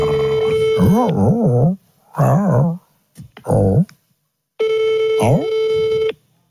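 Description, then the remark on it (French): A phone's ringing tone sounds twice, long steady rings with a pause between, going unanswered, while wavering howl-like cries rise and fall over and between the rings. “Attends, j'appelle”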